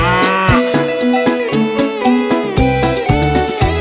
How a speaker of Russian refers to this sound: И на своей ферме он держал коров Ия-Ия-О. Тут Му-Му, там Му-Му, тут Му, там Му, все Му-Му.